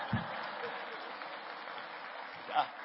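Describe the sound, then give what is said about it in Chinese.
A church audience breaks into steady, dense applause, the clapping sustained and fairly loud throughout, with a brief louder burst near the end. “哎，不需要鼓掌的，哎呀，不好意思。”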